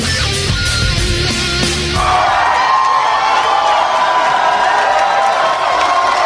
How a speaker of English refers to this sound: You're such a noisy bunch. What's going on here?